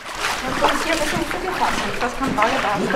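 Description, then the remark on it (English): Footsteps wading through mid-calf-deep floodwater in Venice after the high water peak, each stride a steady slosh and splash, repeating in a walking rhythm with continuous swirling water noise between steps. “After the high water peak, I went out, and here's what it sounds like to walk through water that's mid-calf high.”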